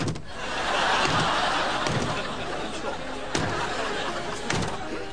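A door is shut with a sharp bang, followed by a second lighter thud, over a steady wash of background noise and faint chatter.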